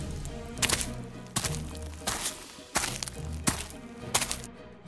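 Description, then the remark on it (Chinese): Six heavy, evenly spaced footsteps, each a dull thud with a sharp edge, land about every two-thirds of a second as someone walks across a courtyard; no voices. “而且和墙壁上写的一模一样，真的是脚步声。上尉小声地问， 听见没有？ 听见了，脚步声就在院子里。”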